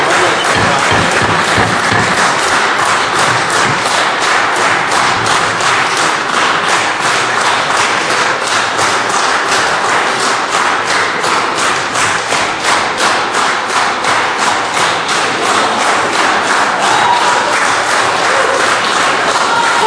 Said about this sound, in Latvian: Paldies par aplausiem.